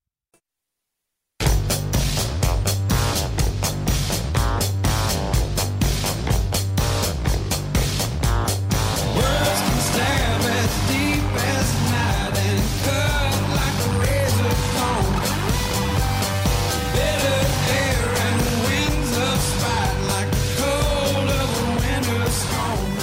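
After a brief moment of silence, a loud, dense music track kicks in with a steady driving beat and full layered instrumentation that continues unbroken to the end.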